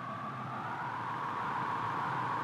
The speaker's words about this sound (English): Do you hear it? It's a curious humming sound that seems to be coming from inside the object. I'll move the microphone nearer. Now, we are not more than 25 feet away. Can you hear it now?